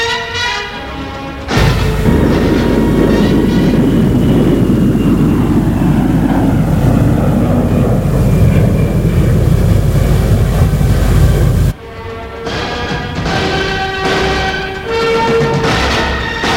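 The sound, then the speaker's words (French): A jet airplane roars for about ten seconds, its engine pitch sliding downward as it passes and lands at Charles de Gaulle airport, bringing a body to France, with steady tonal music before and after the noise. “L'avion est atterri à l'aéroport Charles de Gaulle.”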